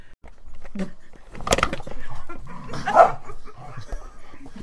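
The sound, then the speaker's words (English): Dogs at play in a room bark and whimper, with a couple of sharp, louder yelps punctuating a steady run of whines and soft barks, faint background voices mingling in; they are playing, not fighting. “Dogs in the room. Having a party.”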